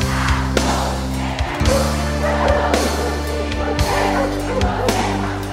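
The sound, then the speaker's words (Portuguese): A dog barks in short, repeated bursts, about one every second, over loud, bass-heavy music that plays throughout. “Safa, cachorro.”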